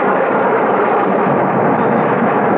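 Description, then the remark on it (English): A loud, sustained roll of thunder rumbles steadily for a few seconds, dense, with no voices over it, in a storm with lightning in a pitch-black sky, heard from an airplane in flight experiencing turbulence. “It's pitch black out there. Except for the lightning. We've hit some really rotten weather.”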